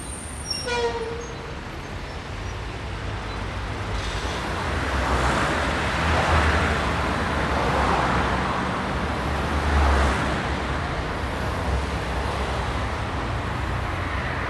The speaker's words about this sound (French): Retrouvons tout d'abord les flux de circulation tels qu'on les entendait du dessus du pont, l'agitation du cours Jean Jaurès, recouverte par la vague de vitesse des boulevards.